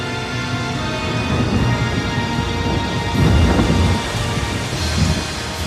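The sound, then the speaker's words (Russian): A storm at sea, heard aboard a ship during a hurricane blowing from the northeast, with steady, hissing rain and deep rolling thunder that swells in low rumbles several times, all at a fairly loud, continuous level with no voices. “На 12-й день шторм стал стихать”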